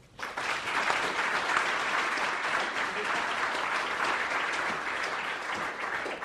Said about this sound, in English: So let me use my small amount of authority and ask you for a round of applause.